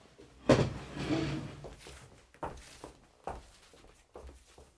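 A door is pushed open with a sharp clunk and a brief creaking scrape, followed by a few soft, spaced knocks and shuffles in otherwise quiet surroundings.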